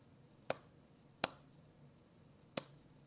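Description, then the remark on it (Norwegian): Three sharp, loud hand claps at uneven intervals, each a crisp, bright crack that dies away at once, over a faint low hum with no voices. “Jeg måtte klappe litt hardere for at dere skal høre det.”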